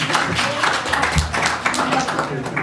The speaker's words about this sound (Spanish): Aplaudan conmigo.